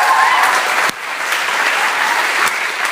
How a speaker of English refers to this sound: So firstly, does Lucy want to come to the front? Let's give Lucy a massive round of applause.